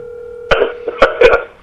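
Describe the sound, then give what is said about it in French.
A telephone rings with an incoming call as someone calls back: a steady electronic tone gives way to several short, bright bursts of ringing, fairly loud, with no one speaking. “Hein, il rappelle.”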